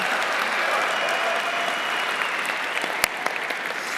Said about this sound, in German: Das ist die Zustimmung und der Applaus.